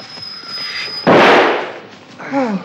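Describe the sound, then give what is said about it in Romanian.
A single loud gunshot, fired by someone behind the speaker, cracks out suddenly and rolls off over nearly a second, preceded by a thin steady whine and followed by a brief warbling squeal. “A tras cineva în spatele meu.”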